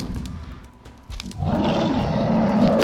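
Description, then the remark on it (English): A deep, loud roar from a massive, angry-looking bear bursts in after a low rumbling stretch, swelling into a sustained, growling bellow that fills the rest of the moment. “Kalahami says, LMFAO, the bear roars when he says very.”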